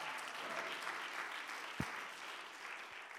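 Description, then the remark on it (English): A crowd applauds steadily, dense overlapping claps forming a broad wash of sound at moderate volume, with one sharper thump partway through and no talking. “Now you can clap your hands.”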